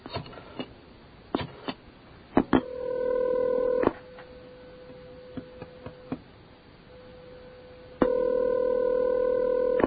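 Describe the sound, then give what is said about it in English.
A telephone being dialed with random numbers for a call on campus: a few sharp clicks, then bursts of loud electronic tones separated by a steady, quieter hum, all clear with no one speaking. “We're just dialing random numbers.”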